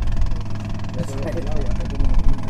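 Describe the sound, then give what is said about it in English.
The inboard motor of a John boat carrying four green-uniformed Coast Guardsmen on a river in Cuba putters along at a steady idle, a low chugging hum that runs throughout, with what sounds like muffled voices mixed in. “During the several hours we were on the river, the only sign of law enforcement were 4 green-uniformed Coast Guardsmen putting along in a John boat with an inboard motor.”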